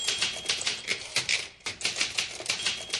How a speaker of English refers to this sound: We would wake up to the sound of her typing at an astonishing speed on her Smith Corona typewriter.